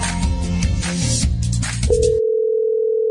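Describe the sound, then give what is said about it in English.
On Eagle FM radio, a busy burst of loud music cuts off abruptly, leaving a single steady telephone ringing tone for a phone call that hums on evenly and clearly for over a second. “Why are you not picking up my phone?”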